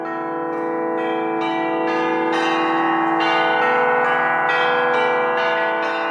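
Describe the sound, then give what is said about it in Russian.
The bells of thousands of churches ring for vespers in a continuous, overlapping drone, with new strikes landing about once a second over a sustained, shimmering hum. Loud and steady, no voices. “Не Пасха, перезвону нет, а стелит звоном, кроет серебром, как пенье, без конца начала гул и гул.”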